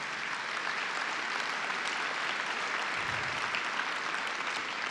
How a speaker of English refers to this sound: I want to thank Chief Perry, if you'll give him a big round of applause, for all of our police chiefs in Florida.